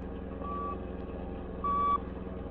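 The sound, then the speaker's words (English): Two steady electronic beeps of a radio tracking beam sent from a small device attached to a car being followed, picked up on the radio in the Black Beauty, each lasting about a third of a second and evenly spaced, over a continuous low engine rumble. “That little attachment you stuck on her car is quite an invention, Cato. With that radio beam it sends off, we won't lose her.”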